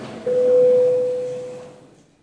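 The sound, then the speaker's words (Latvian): A single steady electronic tone, a parliament's bell signal called before a vote, sounds clearly for about a second and a half, holding one pitch before fading out, with no voices over it. “Lūdzu zvanu.”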